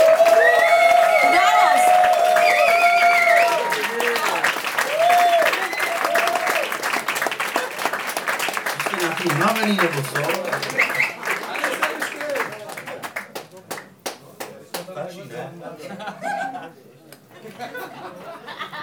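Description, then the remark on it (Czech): A crowd breaks into loud, sustained applause for the event's godparents and three performing artists, dense clapping mixed with cheers and shouting voices at first, then the clapping gradually thins out and grows more scattered toward the end. “Takže mega potlesk.”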